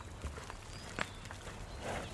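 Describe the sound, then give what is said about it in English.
Ginger-haired Highland cattle with curved horns grazing on an island farm, chomping on grass in a steady rhythm of soft crunching and tearing bites against a quiet outdoor background, with no one talking. “Around us, Highland cattle are chomping away.”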